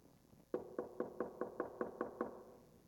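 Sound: knocking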